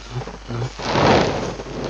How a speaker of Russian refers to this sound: Видишь? Взрывы. Мы уже близко.